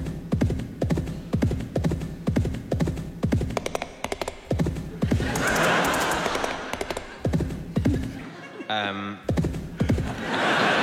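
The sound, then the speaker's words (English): A horse's hooves clip-clop in a steady rhythm, partly blurred by a rushing rumble midway, and a short whinny rings out near the end before the hoofbeats resume. “Sorry, that time it was the horse.”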